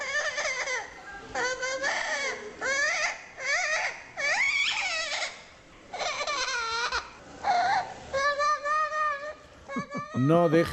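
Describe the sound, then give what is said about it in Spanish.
A parrot mimics a crying baby, letting out a string of loud, wavering wails and whimpers in quick bursts, with no one talking. “No dejen al niño cerca del loro, o viceversa, porque al final también van cogiendo su propio sonido”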